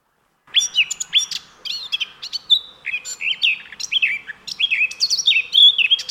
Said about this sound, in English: Often referred to as the Nightingale of the North, their varied, rich and melodic song can be heard from April throughout the summer.